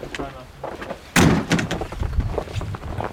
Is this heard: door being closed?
yes